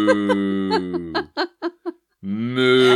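A loud, tinny recorded cow moo plays from a novelty Christmas greeting card with a Highland cow pictured on the front, set off by pressing its button, then a few short choppy bursts, a brief silence, and a second drawn-out moo.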